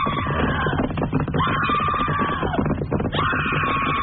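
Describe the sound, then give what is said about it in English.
A woman screams loudly three times in quick succession, on cue in an Old West story about the Sodbuster, each shrill, sustained cry cutting in over a dense, noisy background with no pause between them. “Cue the woman to scream.”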